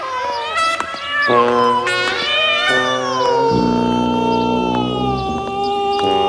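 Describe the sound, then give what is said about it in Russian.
A cat sitting on a street, dragged on a chain leash, yowls loudly in a string of long, drawn-out cries while turning its head left and right, its pitch wavering up and down, with barely any pause between calls for several seconds. “Села на все четыре лапы и, волочась за цепочкой, стала кричать, поворачивая голову то направо, то налево, как кричала бы любая порядочная кошка на ее месте.”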